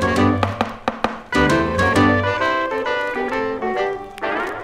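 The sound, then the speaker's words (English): Opening bars of a recorded song play loudly, beginning with a few sharp percussive hits before full instruments come in with sustained chords and a steady beat. No voices are heard. “here we go right now, … and …”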